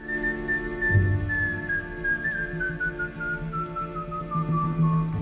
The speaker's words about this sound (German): Neben der Mandoline lernte er Klavier, Gitarre, Saxophon und Akkordeon und er konnte wunderschön pfeifen.